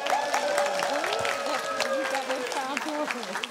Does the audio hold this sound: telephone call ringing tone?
no